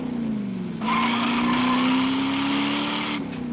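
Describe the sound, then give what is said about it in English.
The standard 383 cubic inch, 335 horsepower wedge V8 engine of a 1969 Plymouth Road Runner roars, its low throaty rumble swelling louder and climbing slightly in pitch as it revs for a few seconds before easing off. No one speaks. “Power from a standard 383 cubic inch, 335 horsepower wedge V8 engine.”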